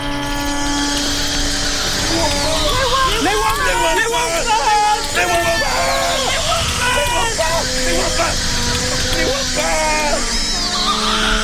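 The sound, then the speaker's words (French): A crowd of hunters cries out in terror and scatters, many men's voices yelling and shouting over one another in a dense, continuous clamor that stays loud throughout. “Des cris d'épouvante s'élevèrent tout à coup. Les chasseurs affolés se dispersaient de tous côtés.”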